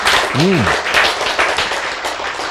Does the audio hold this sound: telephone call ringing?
no